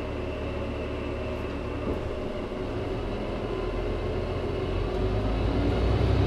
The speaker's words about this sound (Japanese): 入り口の整理券をお取りください。この列車は三輪島行きワンマン列車です。ドアが閉まります。